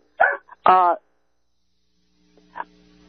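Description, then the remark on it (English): A dog gives two quick, fairly loud barks, followed by quiet and then a brief faint sound with a low hum. “My dog seems to want to pick up the story, huh?”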